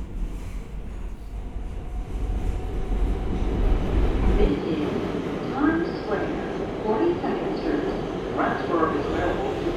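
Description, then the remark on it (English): Steady rumble of a train car in motion from inside, with low roaring noise, faint rhythmic rattling of the carriage and a few high squeals, continuous throughout. “We're on the right car to just jump off, run up the stairs, and out the station.”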